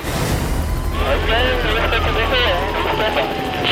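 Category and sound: vehicle, police helicopter flying overhead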